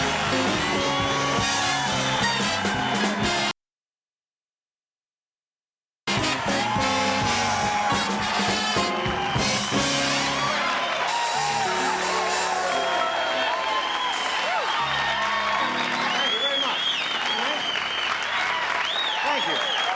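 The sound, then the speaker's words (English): A studio audience claps and cheers loudly as Johnny is introduced, a dense, steady roar of applause with scattered whoops and shouts, interrupted by a few seconds of complete silence early on before resuming at full strength. “Happy crowd. Nice crowd.”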